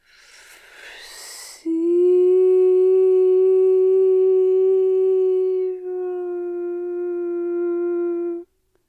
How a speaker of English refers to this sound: The train again.